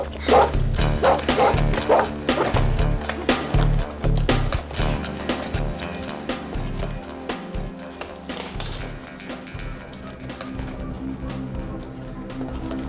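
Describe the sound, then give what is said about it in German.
A dog barks repeatedly in quick, uneven bursts, mixed with whimpering yips, fairly loud over a steady low background bed, while sniffing at a window arch inside a castle that looks down onto the sea. “stand schnüffelnd und winselnd an einem der Fensterbogen, durch den man auf das Meer hinunterblicken konnte.”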